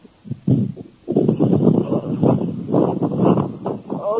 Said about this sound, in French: Non, je ne suis pas sur une moto. Mais oui, peut-être qu'il y a un bon coup de vent. Alors vous pouvez aller à un endroit où il n'y a pas assez de vent.